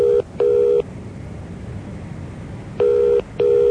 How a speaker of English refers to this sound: Wait until 3 a.m. and then ring the number.